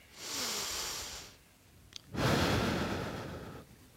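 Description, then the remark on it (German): A long, deep breath drawn in with eyes closed during a relaxation exercise, then after a short pause a fuller, louder breath let out, both airy with no talking. “Atmet mal ein und mal aus.”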